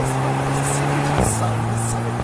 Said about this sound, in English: You can actually feel how fast that car can actually go just by the sound.